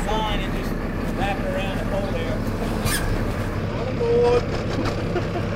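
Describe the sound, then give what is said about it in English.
A commercial crabbing boat's engine drones steadily on open water on an early May morning while out crabbing, a constant low rumble with wind and splashing noise, while muffled voices come and go faintly in the background. “So, yes, one day in May, at 4 a.m, we got up to go crabbing on a commercial crabbing boat.”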